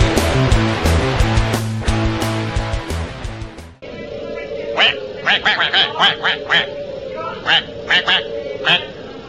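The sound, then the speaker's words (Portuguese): A few seconds of bright electronic music, then a voice imitating a duck, letting out a rapid string of about a dozen nasal quacks in uneven bursts, fairly loud. “Tu é o robô ou é o pato?”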